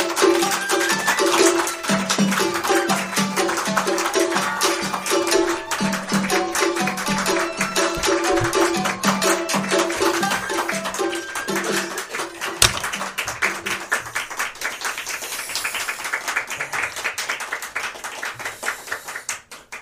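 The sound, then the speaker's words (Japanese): A crowd at a rakugo performance applauds without a break for about twenty seconds, a dense, steady clatter of many hands that thins slightly toward the end but never stops. No one speaks. “鳴りやまない拍手、どうもありがとうございます。”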